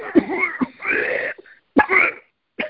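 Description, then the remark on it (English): A voice demonstrates the forceful, raspy cough a person uses to try to cough out something blocking their breathing, about four harsh hacking, throat-clearing bursts separated by short pauses, with no talking. “You know, because when you try to cough something out, you have to do something like this.”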